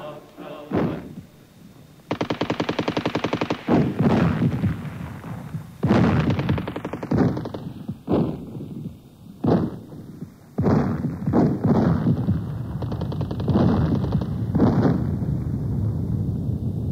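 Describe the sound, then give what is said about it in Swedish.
Repeated bursts of gunfire crackle through a street battle on the streets of Munich as government troops put down an uprising, with rapid machine-gun volleys and loud, sharp shots overlapping in dense, irregular clusters, plus a faint whistling tone drifting beneath. “Regeringstrupper sattes in för att slå ner upproret och på Münchens gator utkämpades regelrätta eldstrider.”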